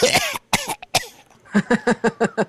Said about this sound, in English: One more time. That was a real cough.